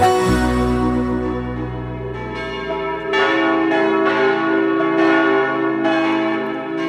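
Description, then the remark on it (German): Church bells peal loudly in a steady, overlapping sequence of strikes, each tone ringing out and blending into a long, resonant hum. No voices are heard. “Glocken von der Kirche, die geben Zeit an.”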